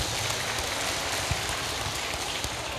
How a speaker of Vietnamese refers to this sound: Xin cho một tràng vỗ tay thật lớn về duyên hạnh ngộ hôm nay ạ.